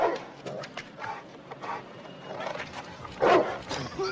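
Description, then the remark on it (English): A dog chained at the foot of stairs up to a building on a residential street barks at night in light snow, a run of quick, repeated yaps and bow-wows, with a louder burst toward the end and faint background noise between barks. “A dog chained at the foot of stairs up to a building.”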